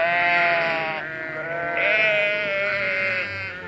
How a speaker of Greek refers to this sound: Βελάζει μπέ το πρόβατο.